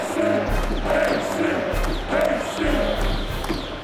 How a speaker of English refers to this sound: Then from 5,000 throats and more, there rose a lusty yell.